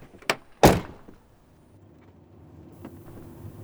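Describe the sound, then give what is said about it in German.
The door of a brand-new two-door car clicks open with a short latch sound, then shuts with a solid thump, followed by a low engine-like hum in the background. “Trotzdem schlage ich vor, du steigst jetzt ein.”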